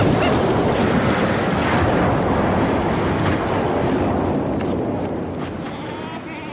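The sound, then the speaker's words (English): A loud, continuous rumbling roar of an avalanche, dense and churning across low and high tones, holding steady for several seconds before easing off slightly at the end. “It's an avalanche, neither more nor less.”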